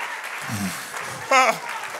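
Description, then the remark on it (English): A church audience claps in a steady, dense wash of applause, clapping their hands in Jesus' name during a religious service, while a brief high voice rises out of the crowd midway and low voices murmur underneath. “If you're ready to receive it, clap your hands one more time in Jesus' name.”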